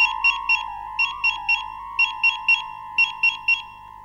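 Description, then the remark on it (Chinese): A mobile phone rings in a repeating electronic pattern, triplets of bright chirps over a steady warbling tone, cycling four times at a clear volume with no voices; the call goes unanswered, ringing for the fifth time. “第5遍了，再不回电话，小何该以为自己喝多了酒出事了”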